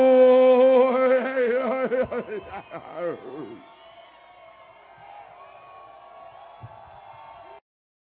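A crowd at a concert cheers, whoops and hollers loudly for about three seconds, then the noise drops away, leaving steady sustained tones ringing until an abrupt stop.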